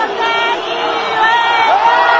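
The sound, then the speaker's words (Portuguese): A dense stadium crowd of Verona supporters roars continuously, many voices imitating monkey noises at Balotelli when the ball reaches him during an Italian league match, in overlapping hoots that rise and carry across the stands, loud and sustained throughout. “É possível ouvir a torcida do Verona quando a bola chega no Balotelli fazendo um som de macaco, né?”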